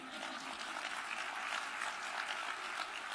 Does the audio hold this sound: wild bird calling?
no